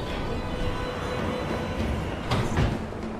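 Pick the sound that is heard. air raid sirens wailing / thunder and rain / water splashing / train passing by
train passing by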